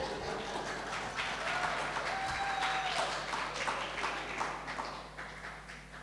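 Three people clap in a loose, uneven patter that keeps up steadily for several seconds at moderate volume before thinning slightly near the end.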